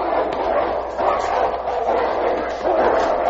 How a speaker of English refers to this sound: What happened? A dog fight? Two would-be killers. It's all over now.